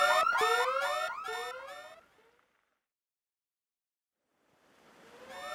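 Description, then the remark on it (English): An electronic alarm blares in a rapid run of about five rising whoops, loud, then cuts out to silence before a rushing noise swells back in at the end. “Quick! The alarm!”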